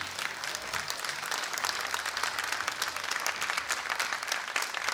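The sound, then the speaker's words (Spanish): Sustained audience applause welcoming tango singer Omar Moyo as he opens the Sadaic recitals: a dense, steady wash of many hands clapping at once, fairly loud and continuous throughout, with no one speaking over it. “Hoy abre los recitales de Sadaic y los recibimos con un muy fuerte aplauso.”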